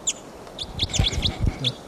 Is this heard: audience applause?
no